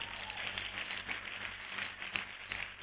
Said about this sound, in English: Give Jesus a big clap offering.